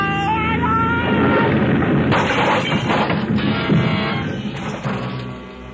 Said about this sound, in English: For a long moment, there was nothing but a vague blackness all about me, and the sound of our crack-ups seemed to roll and echo almost dreamily back and forth in the deep recesses of my mind.